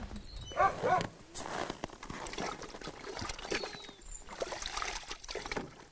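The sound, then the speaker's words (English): Continuous stirring of fish, water and dry dog kibble in a bowl, mixing food for the dogs: wet sloshing and scraping with a few bright clinks near the start, steady and fairly quiet, with no talking. “what Stephanie was doing right then, mixing it around”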